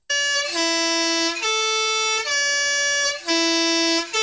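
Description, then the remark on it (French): A loud three-tone mountain postal bus air horn, driven by a compressor and worked by the driver's foot pedal, plays its stepped melody during a celebration of the horn's 100 years, each bright, brassy note held about a second, running through the sequence and starting it again, with no talking. “700 cars postaux ont klaxonné à l'unisson vers 10h pour célébrer les 100 ans du fameux avertisseur à trois temps”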